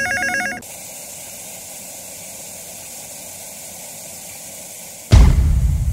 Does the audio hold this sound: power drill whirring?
no